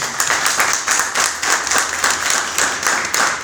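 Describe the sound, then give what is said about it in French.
An audience applauds steadily for a man who completed a book-writing challenge begun in December, many hands clapping in a dense, continuous patter with a slight rhythmic pulse, fairly loud throughout and with no voices over it. “Est-ce qu'on peut d'abord un peu applaudir pour lui?”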